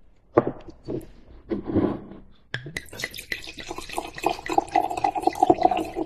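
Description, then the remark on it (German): A few brief clinks and knocks, then Klassik 2020 Austrian quality wine pours steadily into a glass for several seconds, splashing and gurgling with a faint ringing tone as it fills. No one speaks. “Schon allein deshalb muss man immer auch nochmal live einschenken.”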